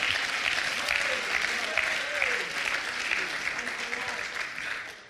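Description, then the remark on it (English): A crowd of people claps hands in dense, sustained applause for about five seconds, steady and fairly loud, with faint voices rising underneath the clapping. “Oh, would you clap your hands and lift your voice?”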